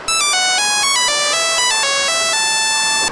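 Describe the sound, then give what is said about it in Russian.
A Nokia mobile phone ringtone plays alone, a bright, electronic melody of quick stepping tones in a steady rhythm, loud, for about three seconds. “Блин, телефон. А чё, Nokia?”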